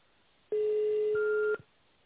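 A single steady electronic telephone tone, tone dialing on a call to the company Kaskad's phone menu, sounds for about a second over faint line hiss, its pitch unchanging, with a brief higher note joining near the end. No one speaks.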